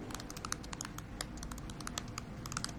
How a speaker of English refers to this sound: She sits on her bed typing on her laptop.